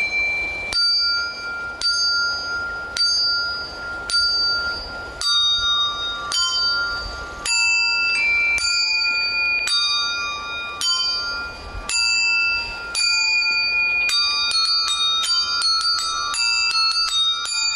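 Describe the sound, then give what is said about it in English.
A performer plays Carol of the Bells on a suit of small bells attached to her clothing, a clear melody struck one note at a time in a repeating pattern that grows busier toward the end, bright with no voices. “Here she is playing the Carol of the Bells on a suit of bells attached to her clothing.”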